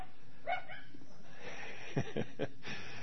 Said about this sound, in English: In Fort Collins here, we have dogs outside the meeting room here, and all kinds of things, because we're in a wonderful hotel, but it's you never know what surprises come by.